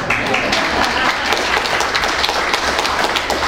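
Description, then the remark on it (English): An audience claps to welcome new members received into the Catholic Church, in steady, dense applause that holds at an even, fairly loud level for a few seconds, many hands blending into a continuous patter with sharp bright transients. “You guys can clap.”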